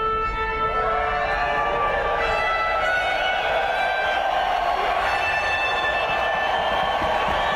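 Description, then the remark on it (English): A large crowd cheers and applauds in a steady, dense roar after a man performs the national anthem on a harmonica-like instrument he designed himself, with long sustained musical notes ringing through the noise the whole time. “Just incredible, and it sounds like the crowd thought so too.”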